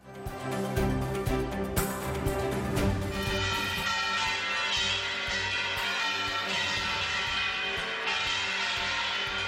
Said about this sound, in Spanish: Acepten ustedes este pequeño efecto radiofónico, que suenen las campanas, sean las de Toledo o las de la Almudena, porque por fin dos dirigentes tan distantes y tan distintos se van a ver.